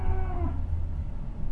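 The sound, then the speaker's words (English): A small young female calf gives one short, nasal moo that slides downward in pitch and fades within half a second, over a steady low rumble of background noise. “Es una becerrita chiquita.”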